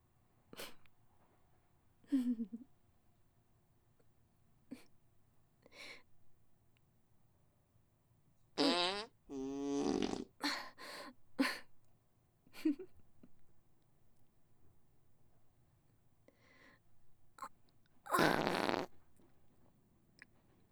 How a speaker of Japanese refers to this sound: あれ？あなた、屁こいたでしょう。もう、何してるんですか？ここ、電車の中ですよ。